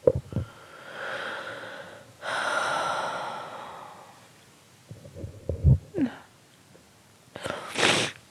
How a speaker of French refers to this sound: Oh, mais j'aime pas parler quand je renifle.